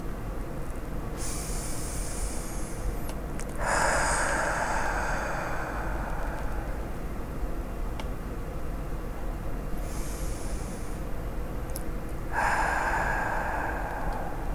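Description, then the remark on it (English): Two slow, deep breath cycles: a hissy inhale through the nose, then a longer, broader whooshing exhale through the mouth, with no talking over them. “And just noticing the natural rhythm of your breath as you breathe in nice and deep and slow, in through the nose and out through the mouth, breathing in nice and slow.”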